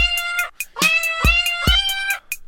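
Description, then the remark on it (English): A rapid sequence of sampled cat meows plays at different pitches on a cat piano, like notes on a keyboard, with a few percussive thumps mixed in, loud with no talking. “There's a cat piano.”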